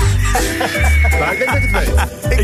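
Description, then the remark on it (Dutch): A person imitates a chicken for an animal-imitation guessing game, producing a loud series of rhythmic, throaty clucks in quick bursts, with a steady high tone running underneath. “ik denk dat hij een kip nadoet.”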